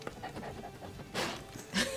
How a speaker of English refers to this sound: Snuffle, snuffle, snuffle. It's a good snuffle. He's such a funny puppy.